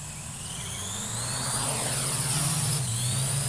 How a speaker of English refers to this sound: We tried one last idea, flying a drone over his estate in Wisconsin.